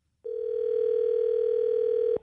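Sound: telephone dial tone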